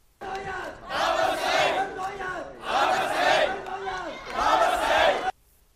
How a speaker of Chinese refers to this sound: 败选的李卓人星期一凌晨3:00左右到达点票中心，先到公众席向支持者挥手，多名支持者拍手和高呼加油等的口号。